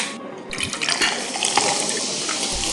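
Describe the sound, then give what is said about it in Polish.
Beer being poured with foam, a steady hissing, splashing stream of liquid that runs continuously and fairly loud for a few seconds, with no voices over it. “Proszę, proszę, nawet to się pieni.”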